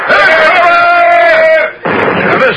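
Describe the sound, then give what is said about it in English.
Loud cannon artillery fire: a heavy, sustained blast with a steady whining tone running through it, a brief drop in sound, then another dense, roaring burst. “Where are they shooting from?”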